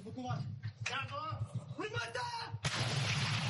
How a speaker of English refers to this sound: The thunderous roar of cannons has become increasingly sporadic here at this Ukrainian artillery position in Donbass. Just a year ago, these soldiers would unleash their artillery at least 40 times a day.